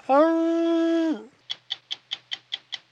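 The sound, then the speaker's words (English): A Tasmanian tiger howls: a loud, steady howl holds one pitch for about a second, then breaks off into a quick, evenly spaced run of eight sharp, high yips that fill the rest of the moment. “And then all of a sudden was there a mighty howl like this.”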